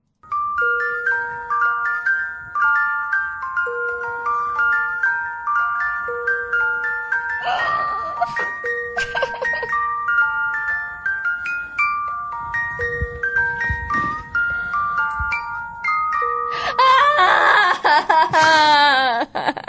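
A wind-up music box, wound up and set next to a microphone, plinks out a bright, tinkling tune in steady metallic notes, interrupted by a couple of brief knocks partway through and a burst of warbling, chirpy tones at the end.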